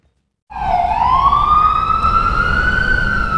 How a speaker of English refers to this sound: The constant wailing of ambulance sirens is a harrowing reminder of the lives at risk. Right now, two very different realities exist side by side in New York.